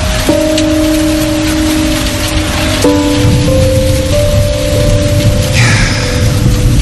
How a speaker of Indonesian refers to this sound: Dan sialnya, ku dengar petir sudah mulai bergemuruh dan hujan pun turun.